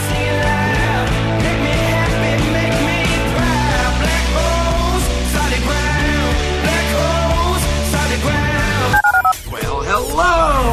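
Loud, steady telephone keypad dialing tones, in a promo for calling the HRNP listener line on ESPN 97.5, sound over a busy, layered musical bed for about nine seconds, then give way to a brief burst of swooping, warbling tones near the end.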